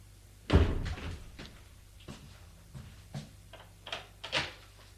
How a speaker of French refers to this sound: La porte s'ouvre. Ça la fait sursauter.